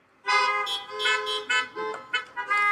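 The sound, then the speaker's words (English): Several car horns honk loudly in overlapping bursts, a busy chorus of blaring tones that rises and dips for a few seconds with no talking. “Honk if you say amen.”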